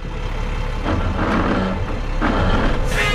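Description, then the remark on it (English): A garbage truck engine is fired up and rumbles steadily with a low drone, swelling in bursts as it revs, loud, with a hiss rising near the end, as the truck pulls away. “fires up the truck and turns on the headlights.”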